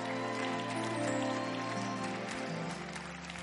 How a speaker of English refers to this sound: Clap for them as they come up. Oh, go ahead and clap for them.